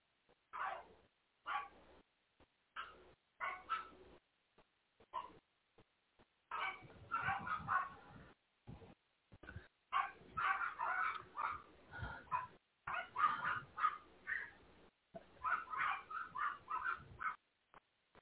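dogs barking

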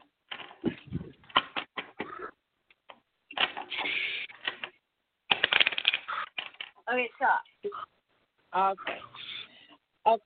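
shuffling tarot cards

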